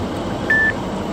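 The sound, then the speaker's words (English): A single short, high electronic beep from a timer set to repeat every 4 seconds sounds clearly once, steady in pitch, while driving past roadside posts, over a constant low rumble of background noise like road or engine hum. “So that's what that beep noise is.”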